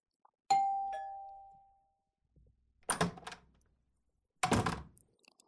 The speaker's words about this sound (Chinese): 学长，你终于开门了呀。